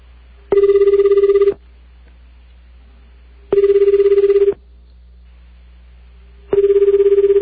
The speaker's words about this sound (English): you notice that when you call Japan, every time you call Japan, it sounds like the phone is ringing underwater. Did you notice that? It's the most incredible thing.